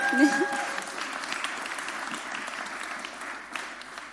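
A church audience breaks into steady applause, a dense crackle of many hands clapping at even volume for several seconds, with a brief tonal hum and murmur at the start.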